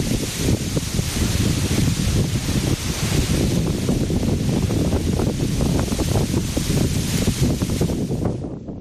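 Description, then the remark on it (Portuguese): Strong wind roars continuously outdoors in Lugo, Galicia, buffeting the microphone with a loud, dense rumble and gusty surges throughout, no voices present. “Así soplaba hai un intre o vento aquí en Lugo.”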